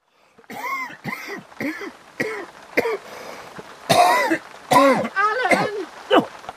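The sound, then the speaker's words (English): A run of harsh, chesty coughs comes in repeated bursts, some louder and rougher than others, with a wet, congested rasp and short pauses between fits. “That cough's gone onto your chest.”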